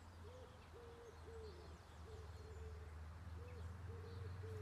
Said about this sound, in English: You hear that? Is it a wood pigeon